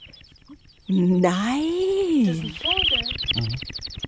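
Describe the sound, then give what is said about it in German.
A person imitates bird chirping with water in the mouth: a loud, sustained rising-and-falling warble, then a burst of quick, gurgly trills and chirps. “Du kannst zwitschern mit Kaffee im Mund.”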